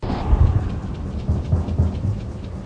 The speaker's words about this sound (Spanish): Hay algo que puede aprenderse de una tormenta. Al encontrarte con un chaparrón repentino, intentas no mojarte y te pones a correr.